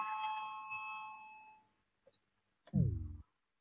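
parliamentary voting bell ringing

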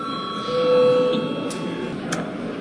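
parliament session bell ringing

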